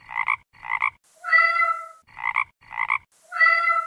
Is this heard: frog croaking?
yes